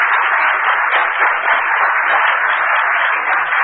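Steady, loud applause from an audience for a contestant at a debate, a dense wash of many hands clapping at once that holds at a constant level throughout with no voices over it.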